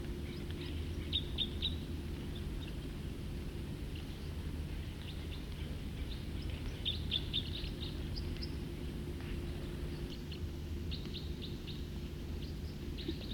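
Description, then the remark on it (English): A songbird sings short, high, twittering phrases in several separate bursts, set against a constant low rumbling hum that runs through the whole recording. “Start recording song again. Probably the same bird.”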